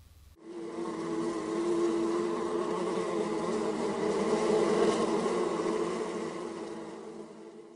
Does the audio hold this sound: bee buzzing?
yes